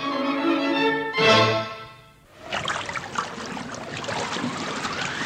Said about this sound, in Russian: Весла не так суматошно и бестолково бьют по воде и не так уже рвутся из рук.